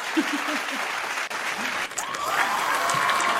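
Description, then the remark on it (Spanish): An applause sound effect: a steady burst of crowd applause, dense clapping filling the whole clip at an even loudness, with a few cheers and whistles rising over it toward the end. “Efectivamente, buen aplauso ese.”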